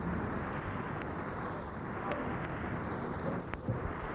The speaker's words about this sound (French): Et tout à coup, l'orage arrive. L'orage gronde.